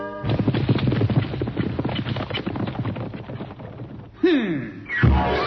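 Horse hooves clip-clop in a quick, steady rhythm, fairly loud, followed near the end by a couple of short horse whinnies.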